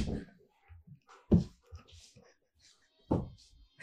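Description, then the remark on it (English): A dog bumps against a door: two heavy, dull thuds land a couple of seconds apart, with softer scattered knocks and rattles between them. Nobody speaks. “Sorry, the dog's just attached to the door. Scared me, kind of.”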